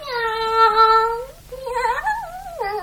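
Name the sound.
cat meowing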